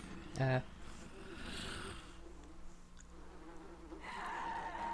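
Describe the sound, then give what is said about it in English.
Bees buzz steadily around a corpse in a low, droning hum, with a brief louder burst early on and the swarm sound swelling again near the end. “And the way you can tell things are in front of you or behind you, like you can hear that corpse, you hear all them bees flying around the corpse there.”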